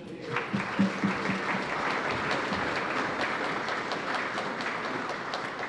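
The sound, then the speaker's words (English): A festival crowd breaks into sustained applause for the Yarra City Council and festival partners. Dense overlapping claps continue at a steady level from start to finish, with a few louder bursts near the beginning. “Please join me with a huge round of applause for them.”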